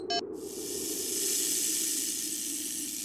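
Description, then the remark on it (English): A rattlesnake's rattle: a short click at the start, then a steady, dry, high-pitched buzzing hiss that continues unbroken for about three seconds, with no voices. “Rattlesnake.”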